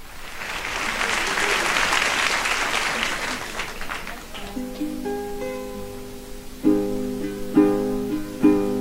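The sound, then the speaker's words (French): Vigorous applause from a concert audience at a live recording at Bobino, released in 1967, fills the first four seconds, then fades as plucked guitar notes begin a melody with sharp strummed accents. “C'est très intéressant de constater la vigueur des applaudissements qui marquent le succès de l'artiste.”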